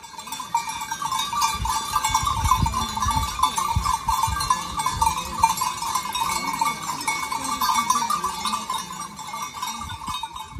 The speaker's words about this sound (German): Da sind ein Haufen Schaf, was angewiesen sein, die sind vormittag bald mal angekommen sein, auf dem Besucherzentrum, auf dem Dach oben gewesen und haben das auch geweidet.